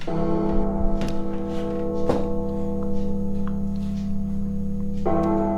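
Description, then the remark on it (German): A bell rings out with several resonant strikes, about one per second at first and then another after a pause, each leaving a long humming tone. No voices are heard. “Ja, Leute, schon wieder kommt die Glocke.”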